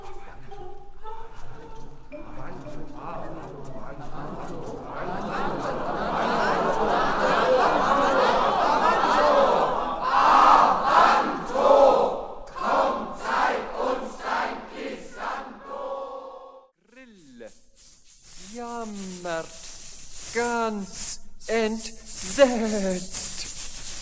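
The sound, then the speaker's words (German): A crowd cheers and chatters with bursts of laughter, building into a loud, dense roar that lasts several seconds before fading, then a single voice speaks over the tail end. “Die anderen Spinnen hören zu und feuern an.”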